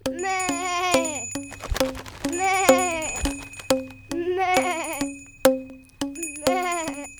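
A goat bleats again and again, five or so quavering, nasal cries in close succession, loud, with sharp clicks and knocks in between.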